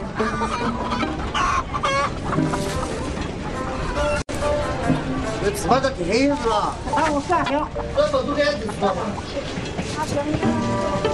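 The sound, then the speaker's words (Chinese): A crowded carriage of the slow passenger train 5633 from Puxiong to Panzhihua South in China, carrying villagers and farm produce to the county market, with many people chatting at once over a steady rumbling hum, while chickens cluck loudly and repeatedly. “前往县城市场的路上，火车变身，移动的菜市场。”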